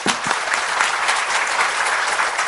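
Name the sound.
audience applause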